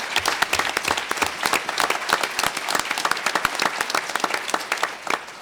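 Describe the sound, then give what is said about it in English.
A round of applause from a group for the nurses and doctors: dense overlapping claps forming a steady, bright patter that holds at an even level for several seconds, with no voices over it. “And so I want to give a round of applause to everybody, the nurses, the docs.”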